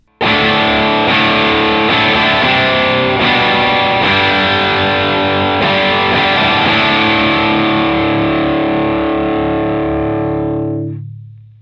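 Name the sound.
guitar distortion pedal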